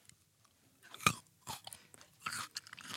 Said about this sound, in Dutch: Okay, ik stop nog één keer een druif in mijn mond.